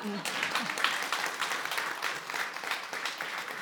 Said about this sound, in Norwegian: Det lov å klappe for den, tror jeg.